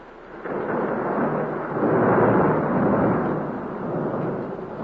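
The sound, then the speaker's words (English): A long, deep roll of thunder from a thunder-and-lightning storm during a dedication service rumbles steadily, swelling louder toward the middle before easing slightly, with no voices over it. “You know, it's the first dedication service I've ever been in with thunder and lightning.”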